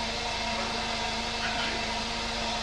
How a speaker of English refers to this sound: we've got the blender in the background here at the cafe for a moment.